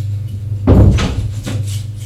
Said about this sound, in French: Elle ouvre la porte de son appartement.